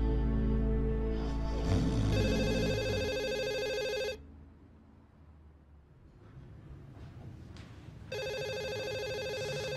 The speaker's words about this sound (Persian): چرا تلفن تو بر نمیداری؟